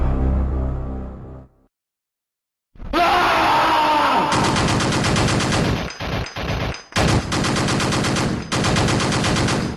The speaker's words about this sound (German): dieser Space Marine, dieser blonde Typ drauf war, der aus seiner Knarre schoss und dann irgendwann anfing zu schreien